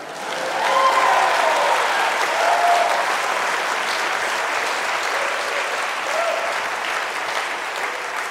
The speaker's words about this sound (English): All right, only a couple clap, I don't care.